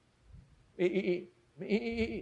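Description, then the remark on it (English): A person's voice imitates a sheep, giving two drawn-out, quavering bleats in quick succession, each about half a second long, fairly loud against a quiet background. “Me, this is a sheep of the world.”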